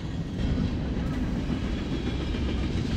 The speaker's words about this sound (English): We have this train going by.